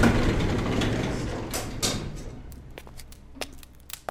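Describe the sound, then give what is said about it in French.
Elevator doors slide open with a low mechanical rumble and a soft whooshing sweep, followed by a few sharp clicks and knocks as the motion settles. No one speaks. “Malheureusement, les portes de l'ascenseur s'ouvrent irrémédiablement sur la même sombre taverne moyenâgeuse au relent nauséabond.”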